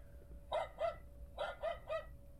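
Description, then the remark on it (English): A little dog wearing a collar barks five times in quick, high-pitched yaps, a pair followed by a trio after a short pause, with no voices around. “A little dog came to play with me.”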